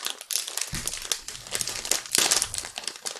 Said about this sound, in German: Und man kriegt den Beutel nicht so ganz auf, glaube ich. Tüte geht nicht so richtig einfach auf, ne? So. Ah, ich hab's.